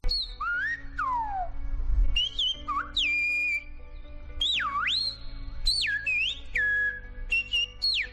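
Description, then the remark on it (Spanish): A Silbo Gomero whistled-language message, the whistled long-distance language of the islanders of La Gomera: a loud run of sharp whistles that swoop up and down in pitch, broken into short phrases with brief gaps, over a faint low steady hum. “es el único lenguaje silbado del mundo y el método de comunicación a distancia de los isleños gomeros”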